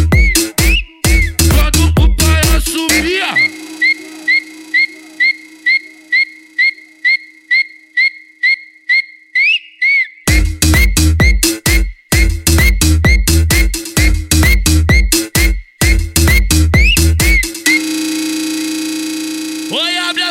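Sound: human whistling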